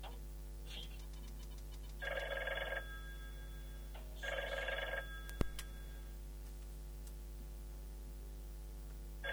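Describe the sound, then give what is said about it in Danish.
A telephone rings twice in the Radio Nego studio with a bright, buzzing electric bell, each ring lasting about a second with a pause between, clear over a quiet background hum. “Jeg tror, vi har der er telefon til os.”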